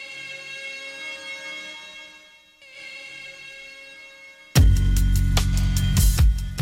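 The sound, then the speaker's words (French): Sirens hold a steady, sustained wail with a brief dip partway through, then a sudden loud, crashing wash of noise cuts in and drowns them out for the last couple of seconds. “Grave, je les laisse jusqu'au bout, les sirènes.”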